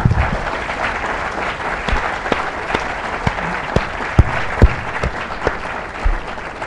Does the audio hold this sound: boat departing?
no